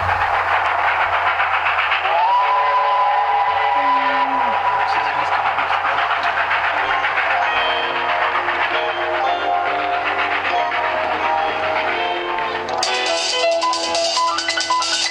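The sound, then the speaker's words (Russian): A loud express train rumbles past continuously, with a sustained horn tone sounding early on over the steady roar of the cars. “Скорый поезд.”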